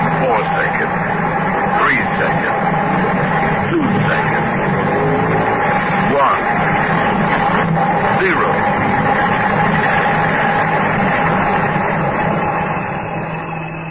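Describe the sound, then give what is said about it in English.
A dense, steady roar of street traffic just before noon, with engines rumbling and droning throughout, loud and unbroken for the whole stretch, with indistinct voices blended into the din. “At that same moment, the enormous commerce of our briskly modern world roared and thundered in the street.”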